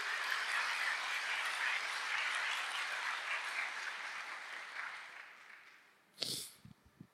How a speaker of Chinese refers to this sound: 我们把最大掌声给我们的上帝。